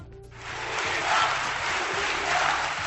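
A large crowd of delegates at the Partido Popular's extraordinary congress in Madrid chants "unidad" (unity) in unison after electing Pablo Casado as leader, the roar of many voices swelling rhythmically every second or so, loud and sustained with a background of cheering.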